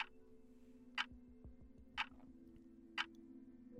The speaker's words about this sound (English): The haunting melodies and ambient soundscapes will send shivers down your spine, while the ever-present ticking of the clock reminds you that time is running out.